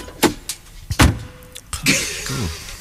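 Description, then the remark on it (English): The door of a 1930s car with a very stiff door handle is worked open: several sharp metallic clunks from the handle and latch, then a longer scraping creak as the door swings, fairly loud. “I appear to have arrived in the 1930s car. with a very stiff door handle.”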